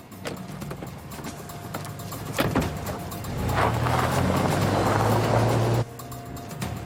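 A van's engine rumbles, then revs up loudly as the vehicle pulls away, the roar holding steady for a couple of seconds before cutting off abruptly. No one speaks.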